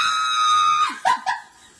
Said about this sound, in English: You broke me. I'm sorry. I'm going to be screaming like this all night.